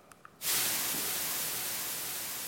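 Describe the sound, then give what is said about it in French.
After a brief quiet moment, loud white noise bursts in abruptly and continues as a steady, even hiss for about two seconds, made of the same white noise segment repeated three times in a row, with no other sounds or voices. “on a tout simplement pris trois bouts de bruit blanc et on les a mis les uns à la suite des autres”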